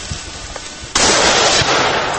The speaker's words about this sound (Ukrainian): Проте віднедавна тут можна почути постріли.